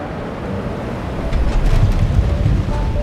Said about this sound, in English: And once you get closer to the ground, that is when the pilots reconfigure the shape of the wing. And as they extend the flaps, you may hear that hydraulic pump. And as that happens, you can sometimes even hear a change in the airflow over the wing.